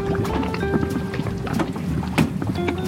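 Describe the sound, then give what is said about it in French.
The boat Falco pulls away across the water, its steady engine hum droning low beneath rushing, splashing water and gusts of wind, continuous throughout. “Allez, le bateau, on y va.”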